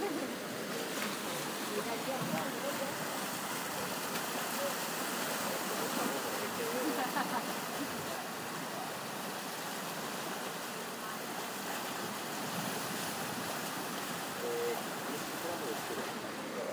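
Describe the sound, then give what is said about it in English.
Waves of the Cantabric Sea wash against a rocky shore at the edge of the northern coast in San Sebastian, in calm wind, in a steady, hissing roar. The surf churns on without pause, with only slight swells in loudness and no clear separate crashes. “The waves reach the edge and talk with the stones and rocks.”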